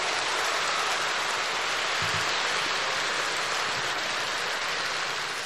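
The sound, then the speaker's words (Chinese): Dense, sustained applause from a large crowd fills the whole stretch, a steady wash of many hands clapping at even loudness with no voices standing out. “我看你们鼓掌的都是明白人”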